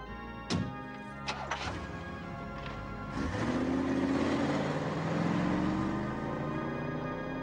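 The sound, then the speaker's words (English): A few sharp clicks and thumps, then a car engine starts and revs up, its rising hum growing steady and loud as Caesar drives away from a graveyard. “As Caesar drives away, Jane pops up from behind a gravestone and hurries over to Worley.”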